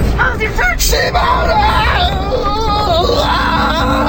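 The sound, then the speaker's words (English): A loud, dense crowd of rioting Friday shoppers yelling and shouting over one another, a chaotic roar of overlapping voices with occasional higher-pitched screams rising out of the din. “Friday shoppers are rioting across the nation.”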